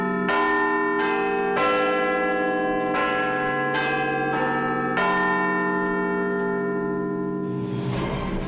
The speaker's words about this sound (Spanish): La original fue ordenada a construir por Benjamin Hall durante las pruebas, se agrietó, fue imposible repararla y hubo que construir otra campana que el 7 de septiembre de hace 160 años comenzó a marcar los cuartos con notas del Mesías de Handel.